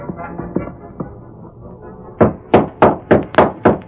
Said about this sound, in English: Then, as he heard hoofs stopping outside, He sighed and lighted the oil lamp.